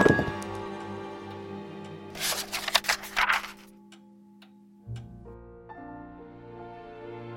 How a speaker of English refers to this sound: Just as the clock struck 12, Cinderella arrived home.